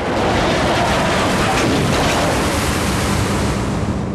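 A plane crashing onto uneven snowy ground, bouncing and coming to rest on a snow-covered slope: a loud, continuous roaring rush of grinding noise and rumble that holds steady for several seconds, with no voices.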